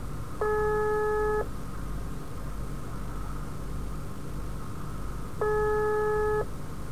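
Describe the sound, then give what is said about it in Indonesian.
A phone ringback tone sounds twice, each a steady one-second electronic buzz, with about four seconds of quiet between them, over a low constant hiss. The call goes unanswered and no one speaks. “Gak diangkat.”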